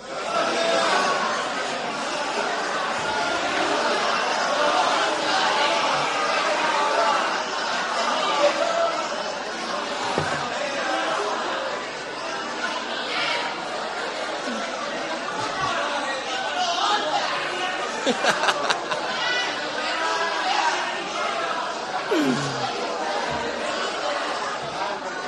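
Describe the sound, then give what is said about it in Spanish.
A crowd of many voices, each repeatedly shouting a chosen Spanish word all at once, forms a dense, steady babble of overlapping shouts that holds at a fairly loud level, with scattered chuckles breaking through. “Cada uno de ustedes elija la palabra que quiera en español y la repite una y otra vez gritándola.”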